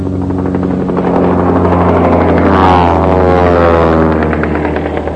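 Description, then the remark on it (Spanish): Military jet planes fly at very high altitude over a city, roaring overhead in a loud, steady drone, the engine tone swelling and shifting in pitch midway as they pass, with no voices. “y en ese momento fue cuando, para asustar a la gente, empezaron a volar aviones de guerra a muy alta altura sobre la ciudad para asustar a la gente.”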